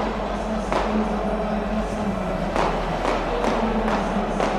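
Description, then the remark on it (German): Firecrackers bang repeatedly in a football stadium as fans throw firecrackers and flares onto the pitch, half a dozen sharp, loud cracks at irregular intervals over a dense, continuous roar of the crowd. “Und während Böller und Bengalos aufs Spielfeld fliegen, liegen sich die Lauterer unten in den Armen.”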